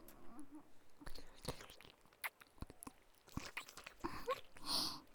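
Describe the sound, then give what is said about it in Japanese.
Wet, smacking mouth noises heard from both sides, with sticky clicks and slurps, coming in irregular bursts over about five seconds, fairly quiet, with a brief airy swell near the end and no talking. “両側からやらしい水音、響いちゃってるのかな、これ。”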